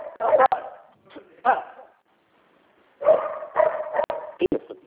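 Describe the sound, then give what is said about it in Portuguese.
A pet dog barks loudly in a string of sharp bursts, falls quiet for about a second, then breaks into another rapid flurry of barks. “Deixa eu dar só um grito no meu cachorro aí.”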